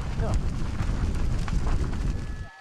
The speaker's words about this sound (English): The first and largest fire, the Palisades Fire, and the horror it has now left behind. You could hear the crackling of the flames, the gusting winds, the fire devouring homes, garages, businesses, collapsing to the ground.